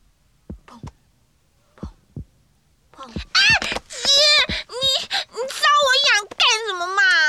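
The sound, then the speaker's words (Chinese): Two soft double thumps of a heartbeat sound out in a quiet opening, lub-dub, lub-dub, heard as children at home play a pretend doctor game and listen to a heartbeat, before a child's high-pitched wailing, sing-song voice takes over loudly. “嗯，让我听听你的心跳哦。”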